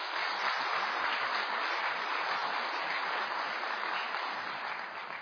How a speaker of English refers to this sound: But we want to congratulate you and a very, very special birthday. I think you could give her a round of applause.